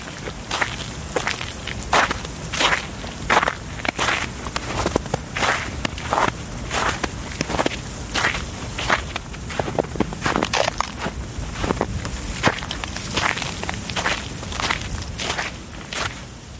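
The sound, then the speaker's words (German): Steady, crunching footsteps creak through deep snow at an even walking pace, with the constant windy hiss of a stiff breeze blowing through icy branches underneath and no voices. “Steife Brise bläst durch vereiste Äste, knarzende Schritte im tiefen Schnee.”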